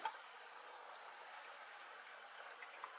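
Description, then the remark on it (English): A steady, hissing stream of filtered water runs into a container for a few seconds while making coffee, fairly quiet and even throughout, with no voices. “Get water.”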